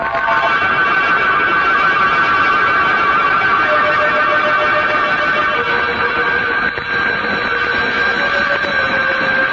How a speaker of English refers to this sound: I don't know if it was the ringing of the doorbell that awoke me, dragged me back to consciousness out of a deep, heavy sleep.